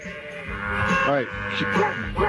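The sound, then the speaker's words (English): Sheep bleats, a few wavering, quavering cries, sing along over a busy musical backing, loud, set into the rhythm of a song as animal vocals on a novelty record. “They play with other animals sometimes. Oh, no, it's sheep.”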